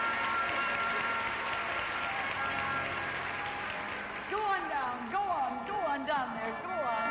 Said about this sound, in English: What do you find, Doctor? I don't find any evidence of any paralysis. Give her a great big applause.